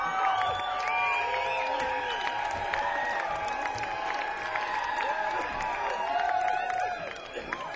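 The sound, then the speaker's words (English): A large audience at a band's performance claps and cheers steadily for the band, with shrill whoops and whistles rising above the dense patter of hands, before the noise thins out in the last second. “But we sure do appreciate you giving us a big applause there and making us feel so welcome so far from home.”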